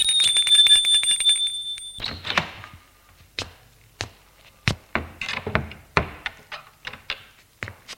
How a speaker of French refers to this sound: sonne à la porte de l'hôtel.